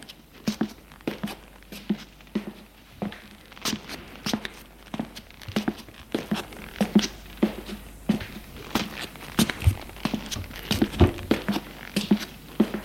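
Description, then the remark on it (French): Footsteps tread at a steady walking pace for about thirteen seconds, each step a soft, slightly muffled thud, heard from below on the stairs going down to the cellar, with no voices. “Il entend ses pas en bas.”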